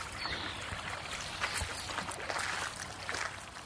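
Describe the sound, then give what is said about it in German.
A boat moves through river water near Meißen, a steady wash of churning and splashing with brief louder slaps against the hull, with no voices. “Wir klettern aus dem Boot Hügel an, zum Weinbergshäuschen des Gutes Schloss Proschwitz.”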